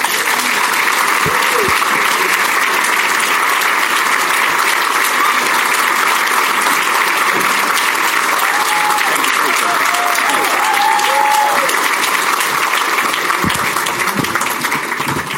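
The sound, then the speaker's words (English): Loud, sustained applause from a large audience at the City Club of Chicago welcoming Illinois House Speaker Chris Welch, dense steady clapping filling the whole stretch, with a few cheers and voices rising faintly through the noise midway. “So I hope you all will join me here in welcoming back to City Club Speaker of the Illinois House of Representatives, Chris Welch.”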